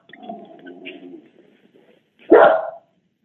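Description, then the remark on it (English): A dog gives one loud, sharp bark, preceded by a quieter stretch of low grumbling or whining sounds. “I've got to take care of this dog.”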